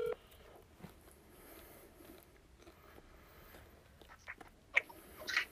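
A few short electronic phone keypad tones beep near the end as someone dials to place a phone call, quiet against a soft background hiss, with no one talking.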